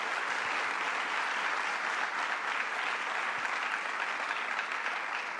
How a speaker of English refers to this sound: First to the New York City Bar Association, let's give them a round of applause for their hospitality.